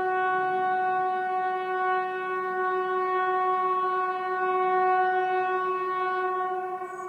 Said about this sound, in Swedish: det är varning för allmänt meddelande. Vad säger du? Varning för allmänt?